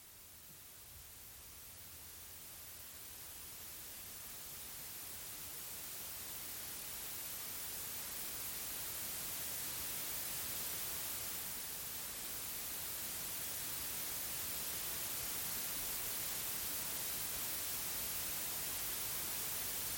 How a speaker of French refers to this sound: Les instructions te demandent d'entrer en contact avec le bruit blanc, un son très délicat qui réagit à tout ce qui l'entoure. Ça, c'est le bruit blanc.